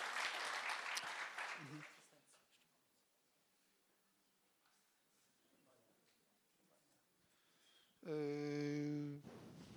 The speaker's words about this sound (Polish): Czyli brawa. Także bardzo wam dziękujemy.